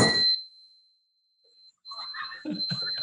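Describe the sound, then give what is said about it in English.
A gong is struck once with a sharp hit, leaving a long, steady metallic ring that fades slowly, then returns amid scattered clattering and shuffling noises. “You need to bang the gong.”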